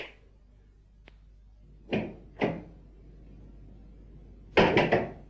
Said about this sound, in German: Hören wir einmal, wie es an einem Abend eines ereignisreichen Tages in Jerusalem an der Tür eines Hauses klopft. Aufmachen! Aufmachen im Namen des Hohen Rates! Aufmachen!